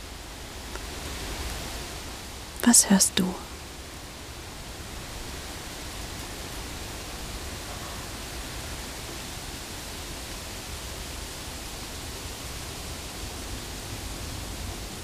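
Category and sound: nature, wind blowing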